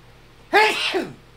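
A single loud human sneeze bursts out suddenly, with a sharp onset and a brief breathy tail, over a quiet background hum.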